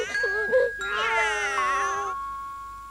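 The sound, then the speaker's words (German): Cats meow and caterwaul in drawn-out, wavering yowls, one short cry followed by a louder, longer wail, fairly loud, with a thin steady ringing tone lingering underneath. “Wenn nun alle Katzen in unsere Laube kommen.”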